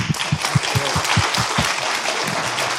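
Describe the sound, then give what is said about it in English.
A crowd applauds steadily after a presentation, dense overlapping claps at a fairly loud level, with no voices speaking over them. “And I mean, we can thank you for the presentation. Give you a big applause.”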